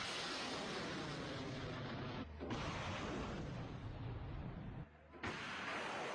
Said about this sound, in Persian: و حالا تا لحظاتی دیگر شلیک یکی دیگر از سامانه‌های تمام ایرانی. و هم اکنون شلیک موشک سامانه جوشن هم در این رزمایش قدرت نمایی.